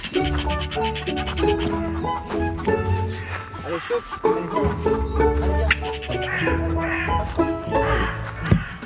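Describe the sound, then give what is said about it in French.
Crows caw loudly in harsh, repeated bursts through the whole stretch, with people's voices mixed in around them. “ce que je vous propose, vous nous emmenez voir les... Bien sûr. Nos corbeaux.”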